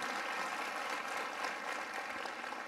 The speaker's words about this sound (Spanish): Qué bonito aplauso eso. Yo creo que quiere decir, yo estoy con usted, pastor.